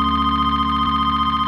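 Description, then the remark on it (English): A telephone on a bedroom nightstand at home rings with a steady electronic trill that warbles rapidly and continuously, loud, with no voices. “He rolls over and grabs the phone from a nightstand.”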